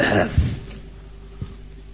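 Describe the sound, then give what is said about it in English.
A rough bout of coughing and spluttering: a harsh throaty burst at the start, then a fainter single cough a second later. No one speaks. “You have to apologize for the coughing and spluttering this morning.”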